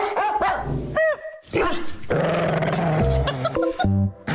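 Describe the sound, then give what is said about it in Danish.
Three dogs bark and growl in a local dog kennel, sharp overlapping barks and yips mixed with low rumbling growls, loud and continuous with no one speaking. “Vi skal en tur i den lokale hundekennel, og det skal vi, fordi der er ankommet 3 nye hunde ind fra højre.”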